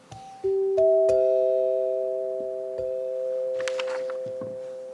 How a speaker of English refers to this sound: Now, this is the close of the February 4th, 1931 program. The Picador has come to you from the NBC studios in Chicago. Same notes. High G, low G, E, C, C. Played on the Deegan 200 chimes, but a little faster.